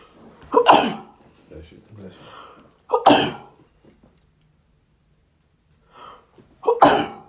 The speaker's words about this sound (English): So, I'm gonna sneeze.